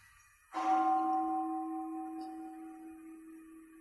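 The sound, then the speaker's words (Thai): A single deep temple bell is struck once and rings on with a steady, slowly fading hum of overlapping tones, heard alone. “ฟังเสียงระฆังซิ”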